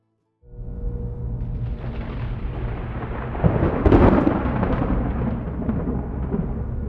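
Low, rumbling thunder rolls in after a brief silence and keeps growling steadily, swelling louder midway with a crackling burst before settling back into a deep, sustained rumble.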